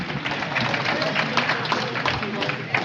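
Steady, dense applause from a crowd, many hands clapping at once in a continuous crackling wash that holds at an even, fairly loud level throughout. The audience is applauding a company owner and inner circle member who comes up to share the biggest win at their table.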